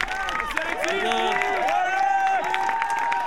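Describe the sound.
An audience applauds steadily, with dense clapping mixed with cheers, whistles and excited voices from the crowd, sustained and fairly loud throughout.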